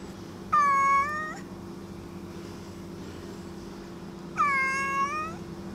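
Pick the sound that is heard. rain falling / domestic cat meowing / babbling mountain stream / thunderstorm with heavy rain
domestic cat meowing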